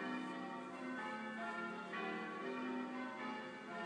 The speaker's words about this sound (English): Ladies and gentlemen, you're probably fed up with us. I'll give you a bit more bells.